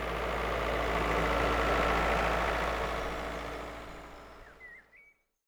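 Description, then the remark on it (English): A tractor engine chugs steadily at a low, heavy rumble, holding fairly loud before fading away over the last seconds, with a few faint bird chirps near the end. “Some farmers use a tractor.”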